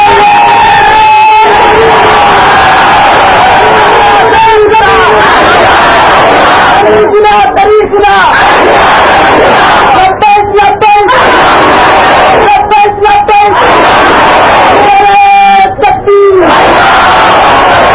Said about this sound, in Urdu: کون کون ہے تیار؟ زور سے نعرہ لگاؤ تکبیر کا،